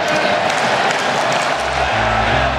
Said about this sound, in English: I think we all should pay homage to this amazing stadium that we've had the privilege and pleasure of enjoying for 57 years. And I ask you for one more time to start the greatest cheer in baseball. Let's go, Oakland!